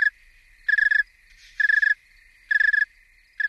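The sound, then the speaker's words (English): A cold male snowy tree cricket chirps slowly and steadily, each clear, high-pitched trill pulse repeating about once a second in an even rhythm, with no voices and only a faint low hum beneath. “They sing slower, the pitch lowers a little bit”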